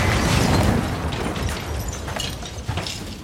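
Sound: ATM explosion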